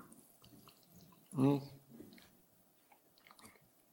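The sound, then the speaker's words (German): A brief burst of water being poured and gulped, rising quickly in pitch, surrounded by quiet background rustling and faint murmuring. “Und jetzt kommt Wasser, das ist wunderbar, weil irgendwie habe ich gerade so eine trockene Kehle, danke.”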